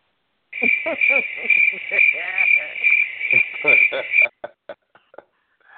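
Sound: crickets chirping sound effect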